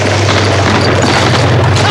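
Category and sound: impact, explosion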